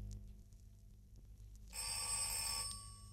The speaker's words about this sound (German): klingelst du mal? Ich komme da nicht bis an die Klingel dran.